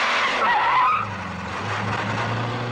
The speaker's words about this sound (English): The taxi screeches backwards through the stadium gates and turns down an exit road, speeding across a concourse.